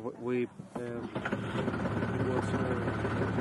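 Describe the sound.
A boat engine idles with a steady, low, throbbing hum, continuing throughout, while a voice briefly speaks over it at the start; the boat is crossing the Albufeira lagoon near Valencia, Spain.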